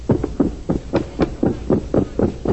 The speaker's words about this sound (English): I hear somebody running. Open the door and see who it is.